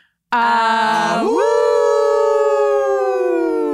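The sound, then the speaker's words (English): Several voices howl together like wolves as a sign-off at the end of a show, in one loud, sustained cry that starts low, sweeps upward and then holds a steady high pitch, with no speech. “And then we howl.”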